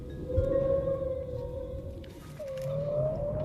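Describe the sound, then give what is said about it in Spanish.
Long, sliding tonal moans of whales calling back and forth, one sustained tone bending upward near the end, over a low rumbling underwater wash with no voices. “Las ballenas, comunicándose entre ellas.”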